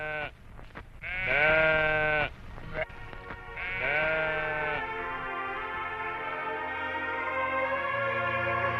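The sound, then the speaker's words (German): A sheep bleats loudly several times in wavering, drawn-out cries, then a steady low murmur of sound continues afterward without further bleats. “Und als er sich umsah, sah er im Gebüsch ein Schaf.”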